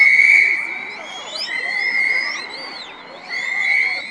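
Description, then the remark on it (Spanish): Several sharp, steady referee whistle blasts, loud, blown by referees in a stadium, sounding in roughly three bursts over a busy background of overlapping shouting voices. “¡Que entren los árbitros con sus silbatos para que atiendan a todas!”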